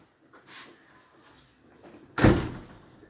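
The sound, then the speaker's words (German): A window being opened: a soft sliding scrape first, then a single loud, heavy clunk as it swings or latches, fading over about a second. No one speaks. “Der kleine Bär machte das Fenster auf.”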